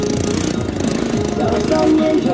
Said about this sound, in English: Amid the bustle of traffic and street vendors, a Chinese activist in her mid-20s taps on a laptop inside the brick-faced office of a local nonprofit organization.